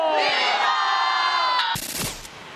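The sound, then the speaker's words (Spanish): A large crowd roars a sustained, unified "¡Viva!" for about a second and a half during President López Obrador's Independence grito in Mexico, then breaks into scattered cheering and noise that fades slightly, loud and reverberant. “Ahí está el grito del presidente López Obrador.”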